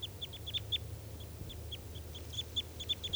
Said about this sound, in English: Birds are all calling now. Sounds like they might take off pretty soon.